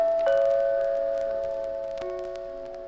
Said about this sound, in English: Next stop is 6666 Park Avenue, the apartment of Mr. Clark Standish. You stick your finger on the doorbell.